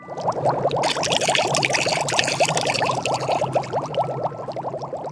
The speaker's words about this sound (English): The man boils the water.